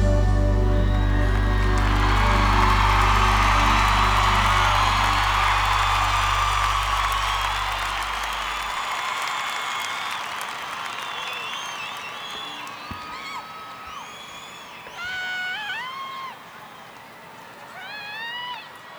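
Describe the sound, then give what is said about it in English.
A big crowd cheers and applauds loudly as a low held musical note rings out and fades, then sharp whistles and whoops rise above the steady clapping. “Thank you, what a crowd.”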